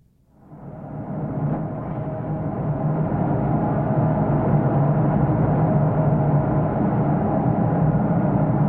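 A loud, steady industrial roar from a furnace smelting precious metals, mainly gold and silver, and its exhaust system with combustion air, in Fairbanks. It rises within the first second into a dense, continuous rumble with a low hum and no voices.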